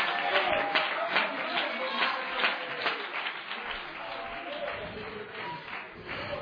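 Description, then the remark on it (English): An audience claps steadily for several seconds at a preacher's call during a sermon, a dense, continuous patter of many hands with a few sharper individual claps standing out, and some faint voices mixed in. “if he can get you to lose faith in the ways of God, clap your hands and love it.”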